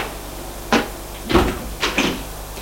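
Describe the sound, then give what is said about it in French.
An elevator door being opened on an upper floor of an apartment building, heard as a quick series of three or four mechanical clunks and rattles, moderately loud against a quiet low hum, with no one speaking. “Et à l'étage, il ouvre la porte de l'ascenseur.”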